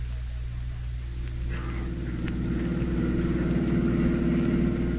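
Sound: car engine running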